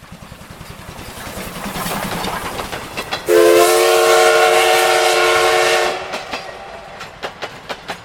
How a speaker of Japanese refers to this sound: 車掌さん、この寝台特急は停車せずにこのまま上野駅まで走らせてください。